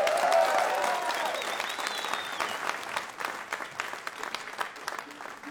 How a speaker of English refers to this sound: Please give a really huge round of applause for the ….